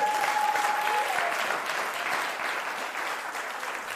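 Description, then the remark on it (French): A church audience applauds to praise the Lord, a dense steady wash of many hands clapping that holds strong for a few seconds and then eases slightly, with a brief high tone at the start. “Vous pouvez applaudir le Seigneur, hein.”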